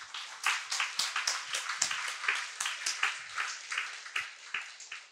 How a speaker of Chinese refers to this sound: 我们给这个白象拍拍手一下。